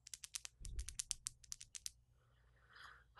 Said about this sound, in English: Let me play with my nails a little bit. ASMR in the making.